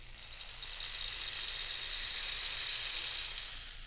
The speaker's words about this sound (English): I have a special instrument to help me with this song. This is a rain stick, and it makes this sound.